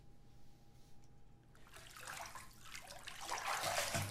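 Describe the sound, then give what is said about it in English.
Water sloshes and splashes in a bathtub, quiet at first and then swelling into louder, churning splashes as a person squeezes into the bath across from another person, with no talking. “Let me squeeze in across from you then.”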